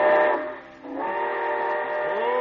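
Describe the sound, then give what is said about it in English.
A loud steam train whistle of the Summer Show Train sounds in two long, chord-like blasts with a brief dip between them, shrill and sustained, with no voices. “Be sure to join us again next Monday, folks, and ride with us aboard the Summer Show Train back to the gay 90s.”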